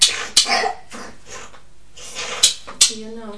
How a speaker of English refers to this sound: Give you some cough medicine, darling. You've got a bit of a cough, haven't you?